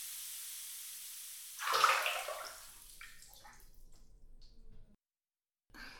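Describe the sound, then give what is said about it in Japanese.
Hot water is poured over the feet and calves in a steady splashing stream that swells into a louder gush, then thins to trickles and drips before stopping. No one speaks. “ここからはふくらはぎにもお湯をかけていきますね。”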